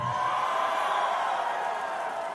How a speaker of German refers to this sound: Der große Jubel der Republikaner, sie sind wieder da.